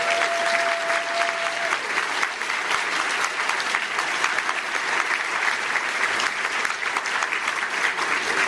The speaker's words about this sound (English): If you're one of our licensing partners, could you raise your hand or something? And how about a little round of applause for folks like... Yes, thank you.